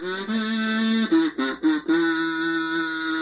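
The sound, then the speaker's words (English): Loud, buzzy duck quacking: a long drawn-out nasal call, then a quick run of three or four choppy quacks, ending in another sustained quack. No one speaks. “Are we going duck hunting?”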